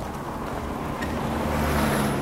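A car rushes past fast in the rain, a steady, loud engine-and-road rumble with broad hissing noise that swells slightly partway through. No one speaks.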